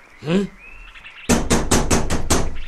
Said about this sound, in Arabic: من الطارق؟